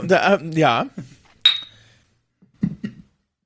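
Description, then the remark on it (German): A single bright clink of wine glasses touching in a toast, ringing briefly before fading, with voices talking just before and after it. “Ja gut, was meinst du, wieso ich so viel schlechten Wein hier habe? Ich erkenne hier ein Muster. Warum bin ich nochmal da? Prost übrigens, Prost.”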